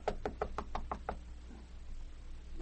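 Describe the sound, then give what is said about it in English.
A quick, even series of about seven soft knocks on a door on the second floor, knocking softly to wake someone, muted and light, followed by a faint hush of background noise with no voices. “Don't want to knock too loud, but I've still got to wake him up.”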